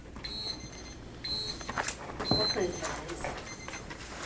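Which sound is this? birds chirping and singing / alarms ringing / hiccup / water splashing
alarms ringing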